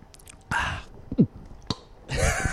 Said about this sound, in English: Or like a gulp, like a.